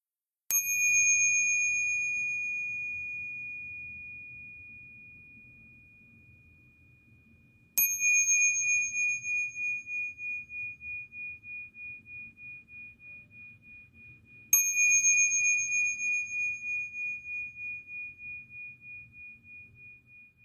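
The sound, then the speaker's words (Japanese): A meditation bell is struck three times to begin a short zazen (seated Zen meditation) session, about seven seconds apart, each clear metallic ring sustaining and slowly fading before the next strike, with no talking and only a faint low background hum. “鐘が3回鳴ります。ここからは鐘の音に意識を向けてみてください。”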